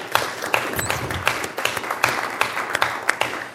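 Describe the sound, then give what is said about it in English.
Steady applause from an audience recognizing a person's work on a community effort, a dense wash of many hands clapping with sharper individual claps popping out, moderately loud and sustained throughout without voices. “I'd like to give him a round of applause.”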